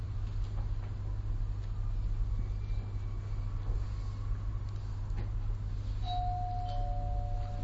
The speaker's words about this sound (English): This is confirmed very solidly by the melodious bell ringing at the right time. Thank you for installing this melodious bell.